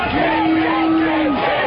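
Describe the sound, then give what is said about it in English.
A crowd at a rally loudly boos a man walking through it wearing an American flag, in one long, sustained, droning jeer that sags in pitch at the end, with a noisy wash of many voices shouting and yelling underneath. “That's a guy that's getting booed because he's walking through the crowd wearing an American flag.”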